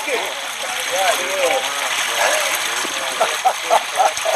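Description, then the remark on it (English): A steady, broad rush of water flowing from the uphill side to the downhill side fills the whole stretch, fairly loud, while indistinct voices murmur over it. “Now the water is flowing from the uphill side to the downhill side.”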